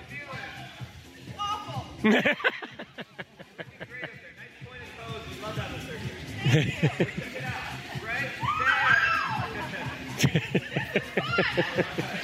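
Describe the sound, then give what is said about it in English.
A woman letting go of a trapeze bar for her first swing lets out a brief, high, rising scream amid excited laughter and chatter from several people, with bursts of giggling before and after the shriek. “And there's the scream.”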